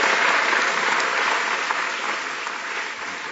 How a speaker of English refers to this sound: But before we raise our glasses, I think could you please metaphorically raise your glass and a round of applause for Matthew Taylor.